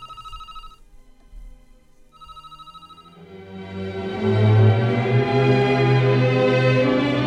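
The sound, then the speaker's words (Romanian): A telephone rings twice, each ring a short bright electronic trill separated by a pause, before louder music swells in and carries on to the end. “Și iată că avem un prim telefon.”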